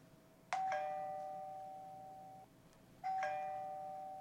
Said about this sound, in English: What's that sound? It's a doorbell.